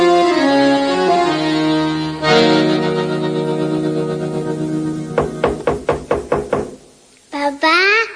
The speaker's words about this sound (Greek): Κάποιος χτυπάει την πόρτα. Ποιος είναι?